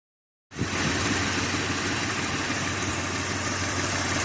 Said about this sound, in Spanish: ¿Lo escuchas? Vibra, es el rugido de un Mitsubishi Montero.